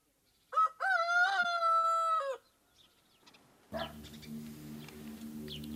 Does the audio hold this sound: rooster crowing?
yes